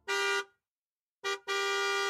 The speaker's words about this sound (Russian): В этот момент я услышала резкий гудок автомобиля.